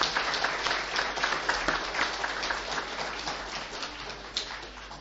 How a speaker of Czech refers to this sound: Já bych je poprosil, kdyby se mohli postavit a nás, kdybychom je mohli potleskem přivítat.